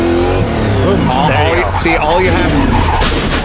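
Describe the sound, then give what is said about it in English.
A race car spins out on the track during qualifying, with a loud, wavering tire squeal as the driver gives it gas. Its engine roars throughout, and the screech rises and falls in pitch over a few seconds. “And I got on it, and it just went whoop.”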